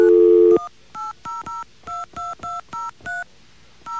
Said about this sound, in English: If you happen to call AT&T, what happens is this. We're going to hit our dial tone.